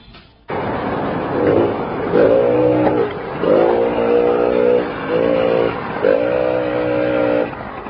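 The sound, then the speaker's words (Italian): A Benelli S50 scooter engine starts up and revs in about five loud, rising bursts, its buzzing pitch climbing and dropping between each throttle push, with no voices. “Nel Benelli S50.”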